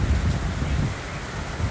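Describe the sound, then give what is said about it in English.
Steady rain pours down in a dense, continuous hiss, with a low rumble underneath that could be thunder or wind. No voices, just the even wash of rainfall. “Can you hear the rain?”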